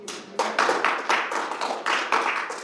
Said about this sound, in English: And can we get another round of applause for all of our panelists this afternoon? Thank you guys so much for taking the time to come and speak this afternoon.